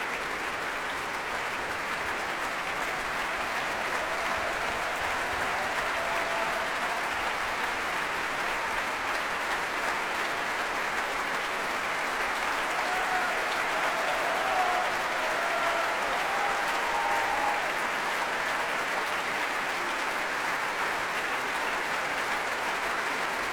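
A BBC Proms concert audience claps steadily for pianist Sunuk Kim, taking applause by himself next to the piano after his first Proms performance, a dense, even wash of applause that holds at a constant loudness throughout, with no voices heard over it.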